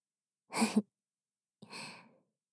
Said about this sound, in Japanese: お次は、お待ちかねの、吐息ふうふうタイムです。